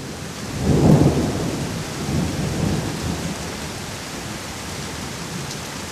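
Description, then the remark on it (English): A low rumble of thunder swells early and rolls away over steady, hissing rainfall that continues evenly throughout, with no voices present; an evening rainstorm as storm clouds roll over the Karren and Dornbirn, Austria. “In the evening, the rains fell. Storm clouds rolled over the Karren and hid it from view before covering Dornbirn itself.”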